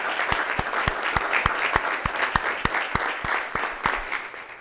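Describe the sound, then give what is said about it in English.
Many people applaud steadily for the school board, dense clapping throughout with a few sharp, regular claps standing out, sustained for several seconds without talking. “So please help me again with one more round of applause for an excellent, excellent school board.”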